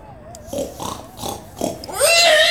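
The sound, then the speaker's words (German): A sow grunts and oinks in a quick series of four short, rough snorts, then lets out a louder, higher, drawn-out squealing oink at the end. “Hörst du wohl, du dumme Sau?”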